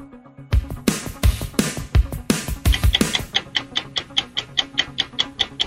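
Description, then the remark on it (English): A quiz countdown timer cue for a 60-second round opens with a few loud, crashing percussive hits, then settles into a steady, bright ticking pulse, evenly spaced like a clock, with no voices. “your time begins when Paul plays the music”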